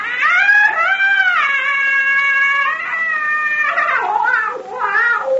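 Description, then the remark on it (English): The witch doctor Nakapa's eerie call of death: a loud, high, wavering scream that holds and bends in pitch for several seconds, then breaks into shorter yowling cries, with no talking over it. “Nakapa give witch doctor call of death. Now, that scream we heard was the witch doctor?”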